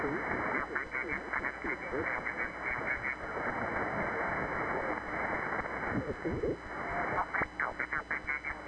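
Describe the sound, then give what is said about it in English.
Dense, muffled interference on an amateur radio contact hisses and crackles steadily, with garbled, unintelligible voices buried in the narrow-band noise throughout. “Sorry, I have a lot of QRM in this moment.”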